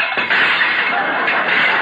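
A loud, sustained crash of dishes smashing and clattering, a dense jumble of breaking crockery that rolls on for about two seconds without letting up.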